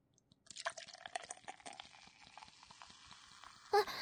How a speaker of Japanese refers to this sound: お、本番はここから、ビールを注ぎます。あ、泡が立つように高いところから。